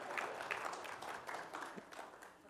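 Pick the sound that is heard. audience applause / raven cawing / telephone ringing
audience applause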